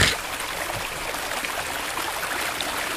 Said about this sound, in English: Should I put the river sound on? In the background? Oh yeah, put like ambient, like babbling brook